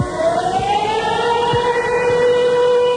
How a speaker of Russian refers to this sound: Дать сирену!